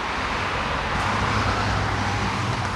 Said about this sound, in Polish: Bohaterem są na razie samochody, które przejeżdżają. No właśnie. Wcale ich nie brakuje, prawda?